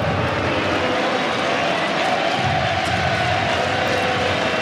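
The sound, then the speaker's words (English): A tennis crowd on its feet at a live match roars and cheers in a dense, steady wash of noise that holds loud and unbroken for nearly five seconds, with no single voice standing out. “Listen to the crowd now.”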